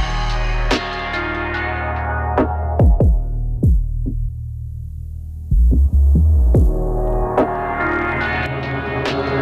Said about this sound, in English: You are listening to the heartbeat of the sage.